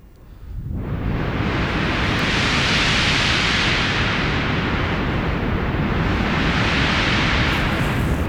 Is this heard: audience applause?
no